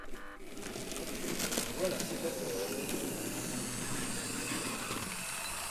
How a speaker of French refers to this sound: J'ai l'impression que c'est pas à vapeur. Ben, c'est pas à vapeur parce que c'est électrifié, bien sûr, le modélisme.